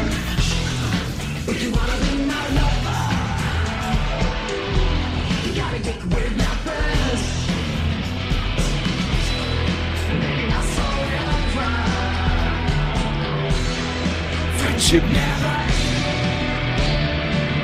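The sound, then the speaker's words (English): A loud, dense, machine-generated industrial rock cover of a pop song plays straight through, with heavy distorted instruments, pounding rhythm and harsh, shouted-sounding vocals filling the whole mix. “not a perfect … recreation. And in fact, it, to me, it sounds more like … by …”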